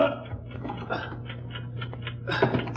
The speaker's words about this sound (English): Yes, the ticking's coming from inside the bag. Open it, man, instantly. It may be a time bomb placed there by Marco's ring.